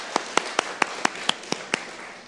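Applause from a church audience, thanking a visiting pastor for preaching, comes through as about eight crisp, evenly spaced claps in a steady rhythm, each sharp and bright, lasting a couple of seconds with no talking.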